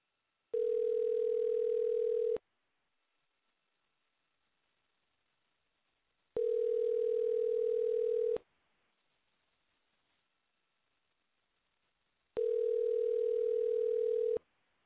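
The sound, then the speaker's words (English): A steady, mid-pitched telephone tone sounds in three even bursts of about two seconds each, separated by longer silences, with no voices, as a prank phone call is placed on Soda Pop Radio. “I'm going to get somebody on the phone and see if I can kind of prank him.”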